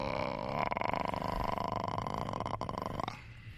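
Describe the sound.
A voice imitates the giant pig creature from Star Wars slurping and guzzling from a trough, with one long, continuous, throaty gurgling snort full of rapid rattling pulses that breaks off near the end.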